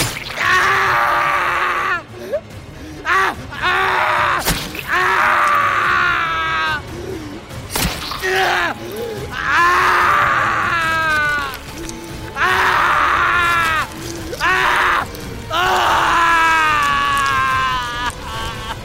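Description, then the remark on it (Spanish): A man screams and groans in pain as a dagger cuts the skin of his back, a series of loud, strained cries and moans coming in repeated bursts with short gasping pauses between them. “gritaba de dolor.”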